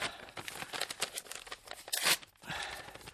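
Continuous crinkling and rustling of a paper being handled and unfolded, with dense crackles throughout, a sharp loud crackle near the end and a brief pause before the rustling resumes. No speech.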